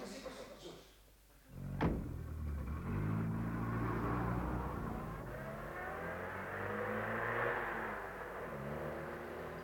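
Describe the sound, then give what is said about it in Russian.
The door of a rented car thumps shut, then the engine turns over and revs, its hum rising and falling steadily as the car pulls away and keeps driving, fairly loud. “Внизу стоит машина, я взял ее на прокат. Поехали к мэру.”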